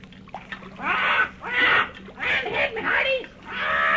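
Paul Parrot, a ship's parrot mascot, squawks excitedly as the boat nears land, in a rapid run of about five harsh, raspy bursts, loud, with only brief gaps between calls.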